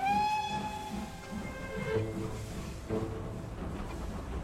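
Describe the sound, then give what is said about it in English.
An old steam train's whistle sounds, one long harmonic tone held for about two seconds over a steady rumble and hiss of the moving train, which continues alone afterwards. “I love these old steam trains.”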